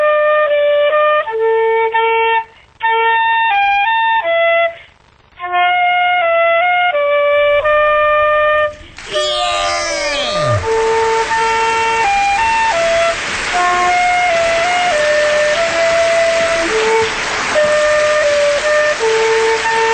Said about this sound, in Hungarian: fuvolázik nekünk. Tessék.